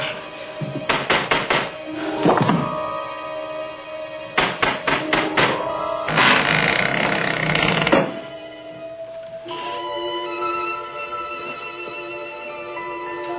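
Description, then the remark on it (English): Bursts of sharp, rapid knocking on a door, loud, coming in several quick volleys and a longer flurry, then giving way to a steady tonal drone. No one speaks. “Hey, Johnny, somebody's at the door.”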